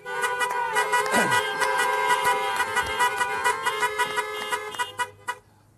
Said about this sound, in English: So, for anybody who's asking about a permit for a truck-based rally of people honking horns in the Nicola Valley, just tell them, mind your own business, you know, you're supposed to represent us, not obstruct us. This is a non-permit event